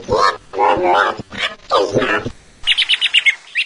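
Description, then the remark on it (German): A female parrot gives several harsh, drawn-out squawks, then breaks into a quick run of about eight bright, high chirps. “du kluge Papageiendame.”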